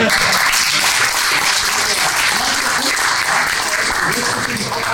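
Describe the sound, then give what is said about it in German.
A burst of sustained applause from a group, dense and steady clapping holding at a loud, even level for the full few seconds, with faint voices mixed underneath. “Applaus!”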